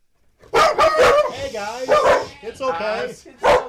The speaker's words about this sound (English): I should tell you first that I was greeted by their two very beautiful but very big and very noisy rescue dogs.